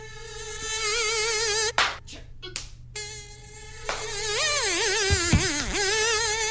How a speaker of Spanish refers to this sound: Uy. El mosquito.